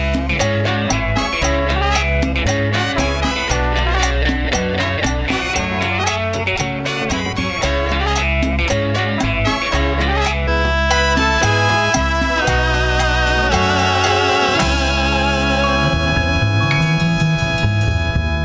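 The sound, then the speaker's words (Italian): A Cuban-style cover of an indie rock song plays loud and continuous, with dense rhythmic instrumentation, steady bass and percussion, and sustained melodic lines brightening in the second half. No one speaks. “vi lasciamo con una chicca veramente nerd, ovvero …, canzone dei …, interpretata dai …”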